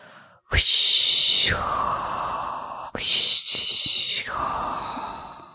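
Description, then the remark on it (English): A voice imitates crashing ocean waves with the mouth, making two long, loud breathy hisses, each surging in, holding for about a second, then trailing off into a lower rasping exhale, like wheezy breathing. “Can I do the wave sound? Yeah, do the wave sound, please.”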